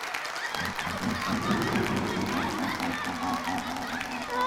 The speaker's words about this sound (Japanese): 皆さん、こんなもったいないばかりの歓声と拍手を送ってくださって本当に本当にありがとうございます。